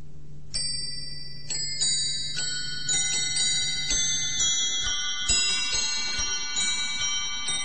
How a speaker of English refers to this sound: The clock. Small and so precise, yet embracing the entire universe, all the rocketing galaxies still red-shifting apart.